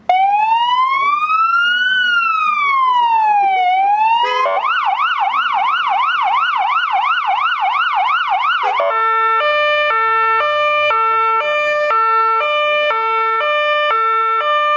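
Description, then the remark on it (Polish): A loud siren of a Polish police patrol car used for everyday duty in Słupsk, Poland, runs through its modes: a slow rising-and-falling wail, then a rapid warbling yelp, then a steady alternating two-tone pattern, sounding continuously throughout. “To jest radiowóz przeznaczony do codziennej służby.”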